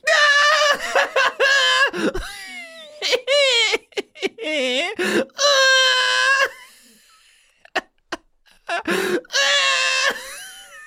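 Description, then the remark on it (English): A person screams in loud, high-pitched bursts, several shrill wails broken by short gaps, with some giggly, bleating-sounding squeals mixed in. “You're screaming.”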